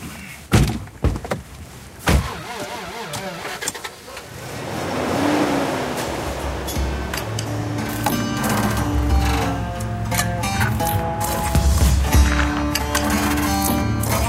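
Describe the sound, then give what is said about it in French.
A few sharp thuds of a car door slamming shut, followed by an engine starting up and a steady motor hum as the car pulls away and drives on. “On part en voiture.”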